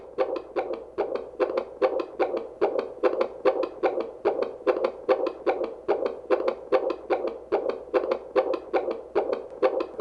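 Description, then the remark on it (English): A fetal heartbeat on a Doppler monitor, with jelly on the mother's belly, at around 141 to 143 beats per minute: rapid, steady whooshing pulses about two per second, loud, with a faint hiss underneath and no talking. “So the baby's heartbeat is around 141, 143, and that's a nice, normal, average heartbeat.”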